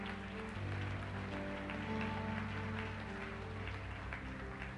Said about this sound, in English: If you prayed that prayer today for the first time or renewing your commitment, we say, welcome to the family of God. Let's give them a hand clap, yeah.